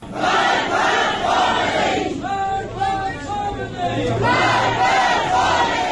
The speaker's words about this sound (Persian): در مراسم سوگواری او معترضین این گونه شعار سر دادند.